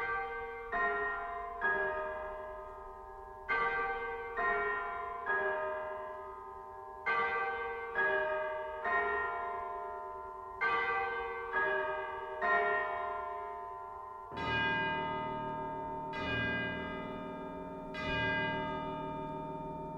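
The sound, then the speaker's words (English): Tubular bells in Berlioz's Fantastic Symphony, in the Black Sabbath movement, strike loud, ringing tones in repeated groups of two or three, each note shimmering and slowly fading. Low orchestral sound swells in beneath the final strokes. “Let's return to the Fantastic Symphony for our next tuned percussion instrument, tubular bells.”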